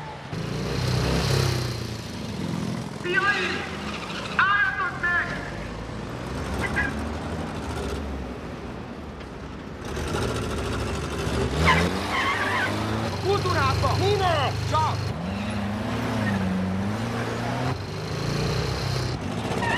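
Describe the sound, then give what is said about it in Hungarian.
A speeding car, named as the MK-03 speeder, races along with its engine roaring steadily, while tires squeal and skid in repeated bursts of rising and falling high-pitched screeching, loud throughout the roughly twenty seconds. “Rigó 7-es, az MK-03-as álmakfutó csúper, gyorshajtót kapjátok el!”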